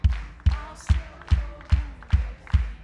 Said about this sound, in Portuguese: O barulho das palmas é o barulho das brasas estralando. Só a igreja e as palmas.